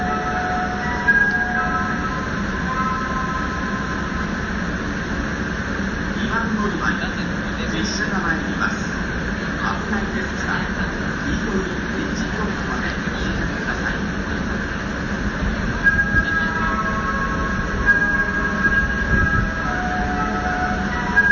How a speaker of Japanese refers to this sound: これはあの出雲市駅の発車音。